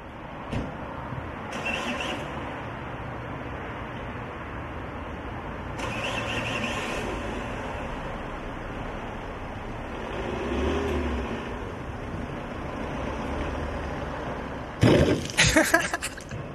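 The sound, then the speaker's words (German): A car engine runs with a steady rumble, swelling in a few revs, then a sudden loud clattering burst near the end. No one speaks. “Das ist Manuel, sein Auto.”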